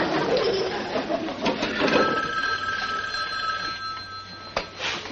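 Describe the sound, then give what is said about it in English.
A telephone rings with a steady, bright electronic trill, its tones holding level for several seconds, with some faint background rustle and a couple of soft clicks near the end. “Oh, why would someone call at a time like this?”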